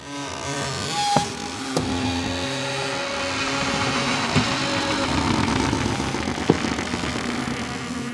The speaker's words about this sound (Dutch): De Brommer. Fabriano Academia Papier, 160 en 200 grams.